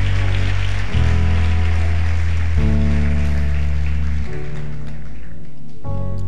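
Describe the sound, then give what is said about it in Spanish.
A church audience claps loudly and steadily for God in a dense, rain-like wash of applause, while sustained low keyboard chords shift underneath every couple of seconds. “Vamos, iglesia, dale ese aplauso fuerte a Él.”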